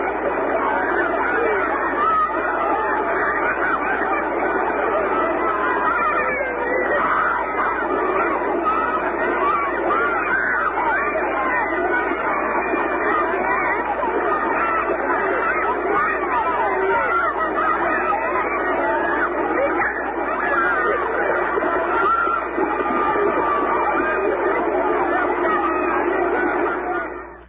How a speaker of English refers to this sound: Well, it's definitely on a beach, then.